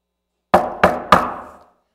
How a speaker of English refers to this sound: Then there's the knock on the door from Jesus.